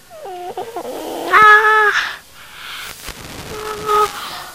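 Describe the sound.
A child's voice imitates cat and lion sounds: a few short, fairly loud tonal cries with bending pitch, with a brief quieter gap before a softer drawn-out call at the end.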